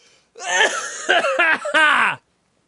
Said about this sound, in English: God damn it. Whooping cough.